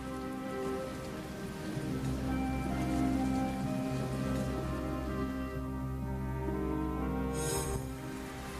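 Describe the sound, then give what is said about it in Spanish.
Steady, dense rain pours down for the whole stretch, a continuous hiss of drops pattering on a surface, with a low sustained tone humming faintly underneath and no voices. “La lluvia cubrió toda la tierra.”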